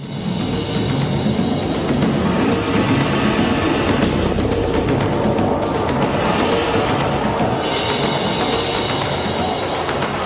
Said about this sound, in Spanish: Shushupopo es el sonido de una locomotora a vapor. No digáis que no es bonito. Shushupopo, las cuatro palabras separadas. Shushupopo, una locomotora a vapor.